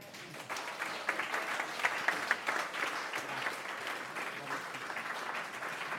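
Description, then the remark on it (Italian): An audience gives a second round of applause during a Radio Casvegno broadcast, a steady, dense crackle of many hands clapping at a fairly even, moderate loudness, with no voices over it. “Direi che si merita un secondo applauso.”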